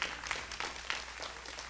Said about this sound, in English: Come on. A couple of hand claps.